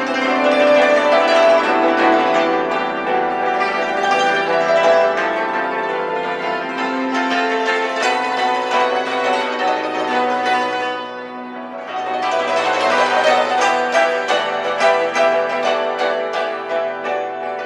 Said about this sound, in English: Now, what instrument is this we're listening to? This is a hammer dulcimer. Which is what exactly? It's a box zither.